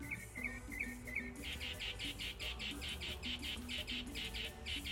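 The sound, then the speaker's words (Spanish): A bird outside chirps repeatedly in quick, high-pitched bursts, a steady rhythmic series of sharp calls over a low background hum, with fainter twittering notes early on. “Hay un pájaro de mierda, que este pájaro que escuchen.”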